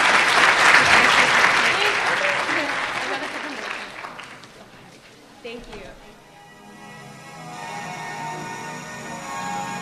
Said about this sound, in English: Let's give Aaliyah another round of applause.